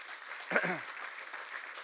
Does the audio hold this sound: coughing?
no